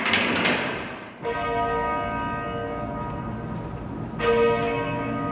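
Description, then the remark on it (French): Church bells ring out loudly with rich, sustained overtones at a funeral in Mantes-la-Jolie, as a crowd of about a thousand people enters the church. A fresh strike comes near the start and another about four seconds later, each tone lingering and overlapping the next. “Les cloches sonnent et une foule compacte d'un millier de personnes s'engouffre dans l'église de Mantes-la-Jolie.”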